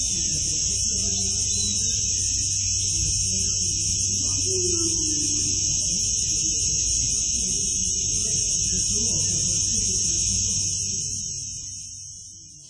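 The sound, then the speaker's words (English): A steady, shrill buzz of cicadas drones without a break over a low rumble of background noise, holding an even level before fading out at the very end; recorded at St. Paul's Gate in August, at 3 o'clock on a hot summer afternoon. “And that was typical to me, as I was telling you, of summer, the cicadas, and yeah.”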